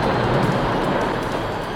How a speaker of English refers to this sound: Open the door or I will start blowing. Go on, blow! Here I go. The sound of a big wind is heard.